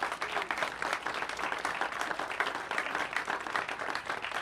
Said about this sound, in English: Could we have a big round of applause for them?